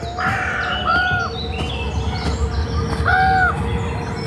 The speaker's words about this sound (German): Zwei Fantasy-Gestalten laufen auf das Bild zu, inmitten von Bäumen. Vögelgezwitscher ist im Hintergrund zu hören.